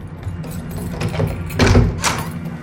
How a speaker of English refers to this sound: The door opens.